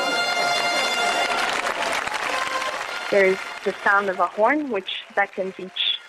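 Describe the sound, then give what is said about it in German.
A large crowd of about 2000 guests, tourists and residents gathered in a stone arena around a 7-metre strip of glowing embers for a fire walk roars and claps in a dense, steady wash of noise for about three seconds, then the crowd falls away and a single voice speaks clearly. “Zusammen mit 2000 Gästen und Touristen haben sich die Einwohner in einer Steinarena versammelt.”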